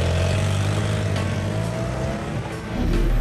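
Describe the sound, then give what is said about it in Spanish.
Maurizio's motorcycle engine revs loudly, its steady roar rising and falling in pitch before pulling away with a sustained, throaty drone as he rides toward his country mansion in the Swiss Alps. “Se montó de un salto en su moto y se dirigió a su mansión campestre en los Alpes suizos.”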